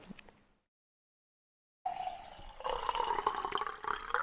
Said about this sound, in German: Nee, ich schenke mir nochmal Wasser nach hier.